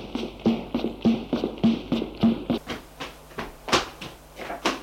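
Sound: knocking on a door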